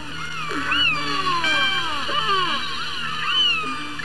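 Killer whales communicating fill the water with overlapping squealing calls and sliding whistles that rise and fall in pitch, a few faint clicks mixed in over a steady low hum, with no talking.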